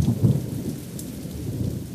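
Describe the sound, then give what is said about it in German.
A thunderstorm rumbles with deep, rolling thunder over steady rainfall, fairly loud, the low booming swelling early and then settling into a continuous wash of rain with no voices. “Aber wenn es Ihnen zu heiß ist, dann kann ich ja mal kurz ein Gewitter aufziehen lassen.”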